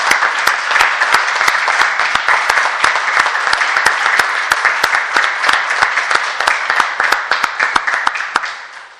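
Sustained applause from an audience at a council meeting, a dense, steady patter of many hands clapping for about nine seconds, loud throughout and tapering slightly at the end, with no talking over it.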